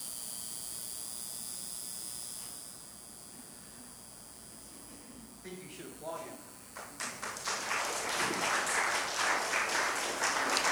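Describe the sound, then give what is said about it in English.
Audience applause breaks out after a quiet, hissy stretch with a brief voice, following a man's testimony of faith in Jesus, quickly swelling into loud, dense, sustained clapping that continues to the end. “And truly what you're applauding, again, is the grace of Jesus Christ and the power of the Holy Spirit.”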